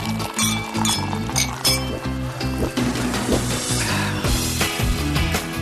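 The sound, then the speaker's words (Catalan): Glasses clink together in a toast for the toast segment of the radio programme Deixa'm tastar, bright repeated chimes sounding over a lively musical backing with a steady bass line, fairly loud throughout. “Doncs seguim amb Deixa'm tastar, moment de brindis”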